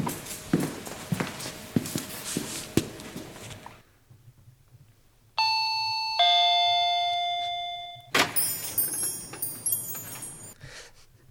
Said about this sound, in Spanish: Continúa tocando timbres.